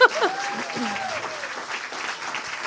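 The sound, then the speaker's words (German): A crowd applauds steadily for a man turning 60 on his birthday, a dense wash of clapping, with a voice briefly rising over it at the start. “Ich finde, das ist ein großer Applaus.”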